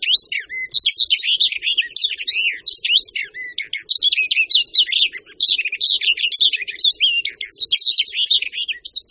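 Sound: barred warbler song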